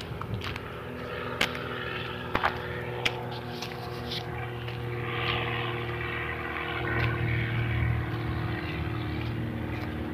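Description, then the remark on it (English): A propeller airplane drones overhead in the morning with a steady, low engine hum that swells slightly as it passes, with a few faint clicks and no talking. “Lots of planes out here this morning.”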